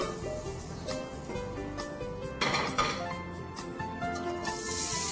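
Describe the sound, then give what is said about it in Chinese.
Stir-fried squid, done popping and jumping in the pan, is scooped out of a wok as the heat is turned off, with a spatula clinking and scraping against the metal in quick, irregular strokes over a steady background sizzle. “OK， 好，大概这个时候呢都跳差不多的时候呢你就可以把它起锅了，把火关掉”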